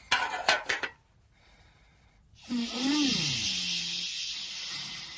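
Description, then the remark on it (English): A few quick metallic clanks, a short lull, then a loud, steady hiss of steam from a kettle set on Errol for a cup of tea rushes in and holds to the end, with a low wavering whistle rising and falling early on. “Nobby, take that kettle off of Errol.”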